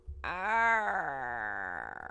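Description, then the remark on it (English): A person vocally imitates a mournful crow call: one drawn-out, nasal, moaning cry lasting about two seconds, its pitch rising slightly and then slowly sagging, with no talking over it. “I'd like to hear the Mournful Crow, though, too.”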